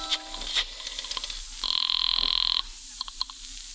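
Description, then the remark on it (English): A telephone rings once down the line from a public phone booth during a call for help to police headquarters, a buzzy trilling burst lasting about a second, with scattered clicks and brief electronic tones before and after it. No one speaks. “Just before I reached Sharia Salaman Pasha, I spotted an empty phone booth and decided to make a quick try for help.”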